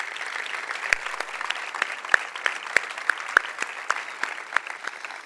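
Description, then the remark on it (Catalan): Steady audience applause for all the people who help carry the Festa Major forward, a dense patter of many hands clapping with a few sharper, louder claps standing out, sustained evenly throughout at moderate volume. “Així doncs, en definitiva, permeteu-me que us demani un fort aplaudiment per totes aquelles persones que des de qualsevol paper de l'AUCA col·labora en tirar la nostra Festa Major endavant.”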